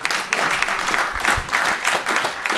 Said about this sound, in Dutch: Applaus voor